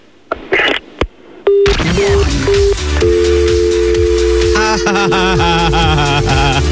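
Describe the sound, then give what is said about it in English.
A couple of sharp clicks as the caller hangs up the phone, then a telephone line tone: short repeated beeps that settle into one steady, unbroken tone, fairly loud over a dense, noisy background with no talking. “He put the phone down.”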